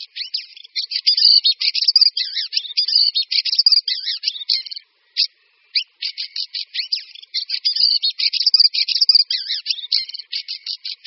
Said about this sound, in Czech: Zpěv kvíčaly je směsicí švitořivých, hvízdavých a drnčivých tónů. U nás ho nejspíš uslyšíme v dubnu.